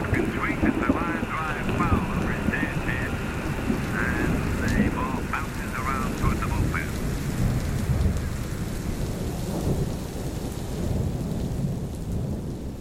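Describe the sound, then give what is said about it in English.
A thunderstorm rumbles low and continuously under steady, heavy rain, with a burst of warbling, chirpy tones in the first half that fades as the storm noise carries on. “The sound of baseball in the background, the game of baseball, on an AM radio with the storm rolling in, with waves in the background.”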